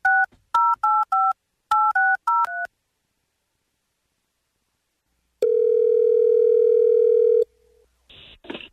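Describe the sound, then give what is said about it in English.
A rapid string of about ten touch-tone beeps as a radio producer dials a grand prize winner's phone number live on air, loud and clear, followed by a steady electronic tone on the line, then a brief burst of noise. “here's the phone number. Please dial away.”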